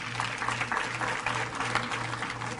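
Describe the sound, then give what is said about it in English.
An audience claps as people come back up to the front, a steady, dense, crackling wash of many hands that holds at an even loudness for the whole stretch, with no voices over it and a low hum underneath. “Give them a big hand clap as they come again.”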